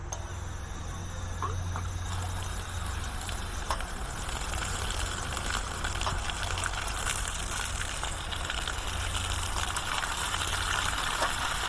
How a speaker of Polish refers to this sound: Wcisnę takie jakby wahadło w dół, to jest taki kran, z którego będzie woda lecieć i zależy jak mocno będę wciskać, tak szybko ona będzie lecieć, zobaczcie.